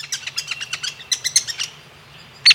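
A woodpecker calls in a quick run of sharp, high-pitched notes that slow and fade, then one loud, abrupt call after a brief pause, over a faint low hum.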